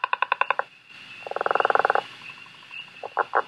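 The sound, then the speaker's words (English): Loud, rapid pulsed trills of a gray tree frog, several bursts of evenly spaced notes, prominent with no talking, and another frog trilling briefly at the end. “And gray tree frogs are really loud. They make a trill, a loud trill that almost sounds like a bird in the middle of the night.”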